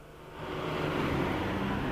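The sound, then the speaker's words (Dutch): Steady highway traffic roars with a broad, rushing rumble and a low engine hum. It swells slightly over the first second, then holds constant, with no voices. “Aangezien het bos een eind uit hun buurt lag, besloten zij een flink stuk af te snijden door over de snelweg te gaan rijden.”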